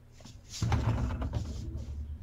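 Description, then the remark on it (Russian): A man knocks on a window, a short cluster of dull raps against glass, over a low rumbling background. “Да, стучит человек в окно и требует, чтобы Ага.”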